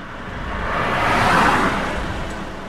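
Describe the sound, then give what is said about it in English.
Cars pass both ways along a road that is not very busy, a broad rushing hiss of tires and engines swelling to a peak midway and easing off again, with no voices. “There's cars coming both ways right now.”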